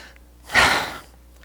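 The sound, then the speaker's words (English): A voice imitates thirsty panting with one loud, breathy huff of air, heard alone, lasting about half a second before fading to quiet. “They're hungering and thirsting for it. They're panting.”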